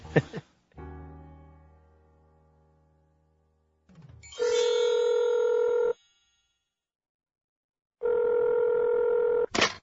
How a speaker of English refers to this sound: The phone rings. My partner, Mr. F, is calling.